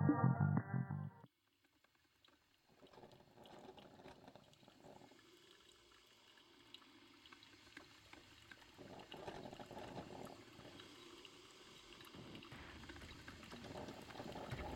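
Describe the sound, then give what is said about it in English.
A coffee machine in a hotel room percolates with a steady bubbling and gurgling hiss that builds gradually, following a short, loud tonal burst at the very start and a brief pause. “You wake in an empty hotel room to the sound of the coffee machine percolating.”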